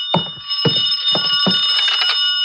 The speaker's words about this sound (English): I could hear the phone ringing from somewhere inside, so I waited to see if anyone answered it. On the third ring, I tried the door.